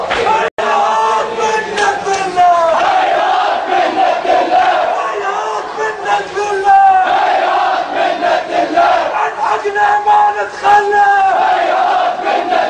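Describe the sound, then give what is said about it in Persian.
A large crowd of Bahraini mourners chants together in loud, rhythmic unison, voices rising and falling in repeated phrases, with a steady pulse as they beat their heads and chests, mourning the striking of Imam Ali. “بحرینی ها دیشب را در غم ضربت خوردن مولای متقیان به سوگ نشستند و بر سر و سینه زدند.”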